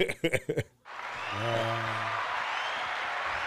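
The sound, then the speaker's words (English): A brief bit of voice gives way to a steady wash of studio audience applause, dense and sustained, with a tonal cheer rising briefly through the clapping before it carries on to the end. “That was the live studio applause.”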